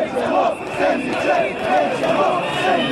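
A large crowd of several thousand mostly young demonstrators at a protest in Novi Sad, Serbia, shouts together in loud, rhythmic bursts, chanting roughly twice a second over a steady roar of many voices.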